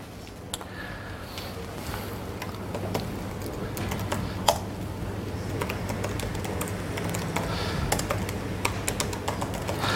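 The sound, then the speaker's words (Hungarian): Steady, rapid typing of text into a new WordPress page on a computer keyboard, with irregular clusters of light key clicks over a low background hum. “Írom a szöveget.”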